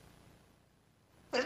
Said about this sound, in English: Oh, you know that sneeze?